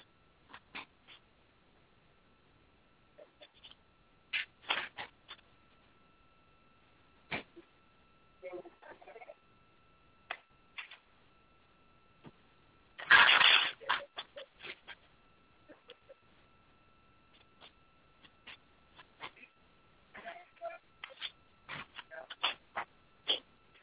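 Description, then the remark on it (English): Astral cards and a legacy deck being shuffled for a career card reading, with scattered crisp flicks and taps and one dense, louder riffling burst partway through, over otherwise quiet background. “I'm about to shuffle up my astral cards and legacy deck.”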